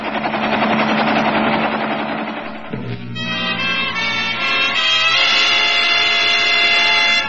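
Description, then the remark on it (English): A loud, steady helicopter drone with dense rotor chatter and a low engine hum, continuing for several seconds with a shift in pitch midway. “Take the helicopter away, Wilkins.”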